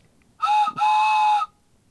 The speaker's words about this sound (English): Oh, hey, by the way, National Train Day 2008, there's a whistle that I have. Choo-choo. Listen to this.